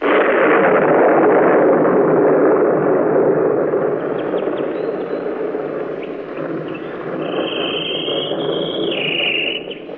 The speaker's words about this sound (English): How would you like to hear the bravest bird in all the world? How's that again? Here is a bird who talks right back to thunder.